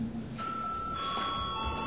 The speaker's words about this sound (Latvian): Līdz ar to lūdzu zvanu.